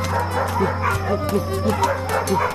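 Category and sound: animal, dogs barking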